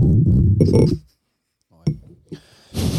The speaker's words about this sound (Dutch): Ja, hey, proost man. Ja. Zo samen. Met de luisteraars proost tegelijk.